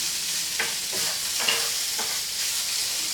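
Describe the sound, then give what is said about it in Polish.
Steady, bright sizzling of chicken frying in a pan for a salad, with a few soft scraping or stirring sounds breaking through at irregular moments. Fairly loud, with no voices. “Teraz czekamy, aż się kurczak usmaży, bo wszystko zostało kurczak.”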